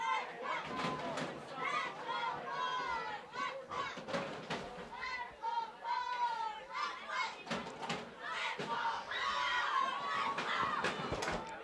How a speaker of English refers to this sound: Crowd clearly very involved in the game. Something you love to see, not only as a soccer fan, but as someone part of the community. Clearly, Port Washington, they do their sporting events correctly.